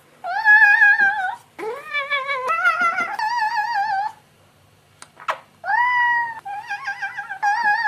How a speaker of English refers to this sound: As if Napoleon Dynamite and Hello Kitty had a child and made it yodel. Cat yodeling.